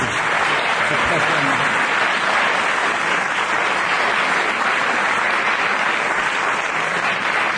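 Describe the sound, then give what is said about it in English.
A studio audience bursts into sustained, loud applause, dense clapping holding steady for several seconds without letting up, full with no voices standing out. “Let's have a huge round of applause for that, ladies and gentlemen.”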